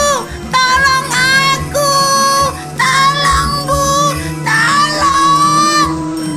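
A girl screams and shouts for help in a string of loud, high-pitched cries, each rising then wavering, repeated about once a second over a low, steady rumble in the background.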